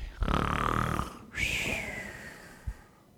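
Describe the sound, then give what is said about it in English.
A person imitates snoring with a buzzy, rattling inhale followed by a brief pause and a long, whistling exhale, fairly loud, with no other talking. “He's probably snoring.”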